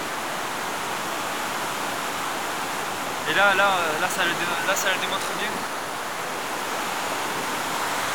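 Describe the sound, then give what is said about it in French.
A steady, full roar of water cascading down a mountain below a glacial rock step, through a small gorge, fills the whole recording, constant, with a man briefly talking over it midway. “Ces cascades, cette force.”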